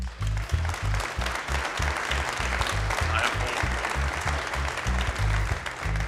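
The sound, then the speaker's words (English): Applause from an audience fills the whole stretch, a dense, steady wash of many hands clapping with no pauses, joined by deep repetitive low thumps underneath. “Go ahead and clap.”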